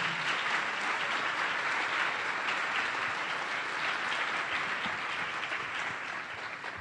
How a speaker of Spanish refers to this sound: Bienvenidos a ustedes y un aplauso a nuestros 11 poetas invitados.